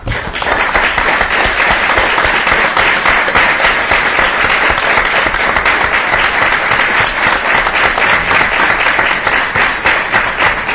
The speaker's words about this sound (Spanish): No podía ser de otra manera. Se despide como una campeona con un aplauso Carmen Herrera.